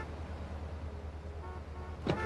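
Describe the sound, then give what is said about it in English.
A steady engine and traffic rumble with a brief car horn toot partway through, followed by a short, louder burst near the end. No one speaks. “I mean, so much honking.”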